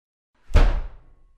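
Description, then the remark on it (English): A single heavy wooden door of a mill swings shut with a solid thud as the miller goes in, its low boom ringing briefly before fading into a short reverberant tail. “He's just going in through that door. Quick, before he shuts it.”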